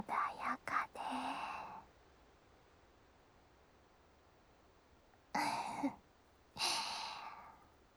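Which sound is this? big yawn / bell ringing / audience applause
big yawn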